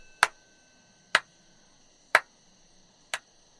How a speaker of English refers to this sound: That's coming from the entrance. Is somebody clapping ominously at us?